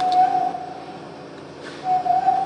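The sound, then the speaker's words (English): Two steady, breathy whistled notes at a single mid pitch, made by an orangutan at the National Zoo in Washington, one at the start and one near the end, separated by a quiet pause, with no talking and a faint background hiss. “knows how to whistle.”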